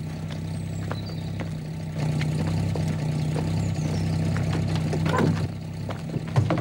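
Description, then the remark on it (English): A black car's engine idles in a farmyard, a priest in the driver's seat, with a steady, low rumbling hum that grows slightly louder partway through, joined by a few faint clicks and knocks, with no one speaking. “Behind a window, her mother bites her lip as she watches the car pull away.”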